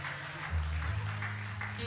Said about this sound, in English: As our children come down, we want to applaud them for doing an awesome job this morning.